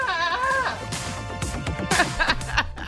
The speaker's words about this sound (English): Reportedly, he told us on our social media that our fascination with goats who sound like people ruined his morning commute,